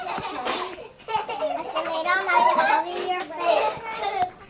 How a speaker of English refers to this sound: This may sound like the usual child care center, with kids playing and having fun. But this is an unusual place.